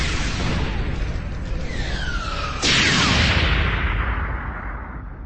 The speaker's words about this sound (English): Red lines from Valor's plasma cannons filled the space between the ship. The fire so thick that the lines seemed to bleed together into a red flame.